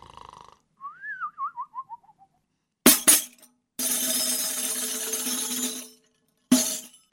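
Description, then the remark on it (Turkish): A person dozing off for a nap snores cartoonishly: a warbling whistle slides downward, then harsh rasping bursts and a long, loud buzzy snore, ending with one more short snort. No one speaks. “Birisi bana mı seslendi? Ha yok, benim horlamammış, tamam.”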